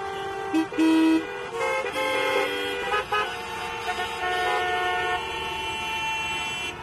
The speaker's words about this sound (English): Welcome to the honking capital of the world. Here, people honk even when the signal is red. Maybe they think that by honking, they can make the signal turn green faster.